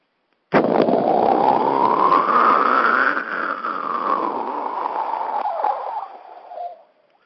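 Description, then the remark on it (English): A jet sound effect opening a Mike Modest wrestling promo: a loud, steady roaring rush whose tone climbs and then slowly sinks over about six seconds before cutting off, with no voices over it. “I wanted it to kind of be like the old WWE, you know, they were announcing, so it's Mike Modest on the road, so we're going to do like the jet sound.”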